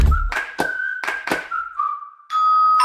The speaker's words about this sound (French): Mais qui sonne à la porte? Bon, ce serait pas Guillaume Meurice? Bah si.